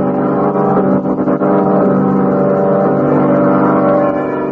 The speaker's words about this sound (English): Oh, car skidded. Went off the road.